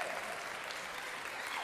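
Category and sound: crowd, audience clapping hands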